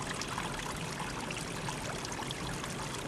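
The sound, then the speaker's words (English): The clear, cold stream at the beginning of the Vistula River, up an old logging road in the Carpathian Mountains in southern Poland, runs steadily over rocks, a continuous bright babbling and gurgling of water, with no voices or other sounds. “It's the beginning of the Vistula River at a place way up an old logging road in the Carpathian Mountains in the south of Poland.”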